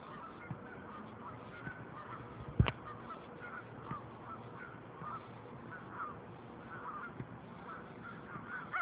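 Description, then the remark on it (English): Geese honk in scattered, overlapping calls against steady outdoor background noise, with one sharp knock partway through and no one speaking. “I hear the geese laughing at me.”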